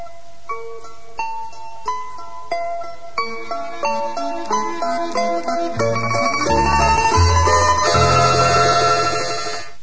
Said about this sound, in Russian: Колокола.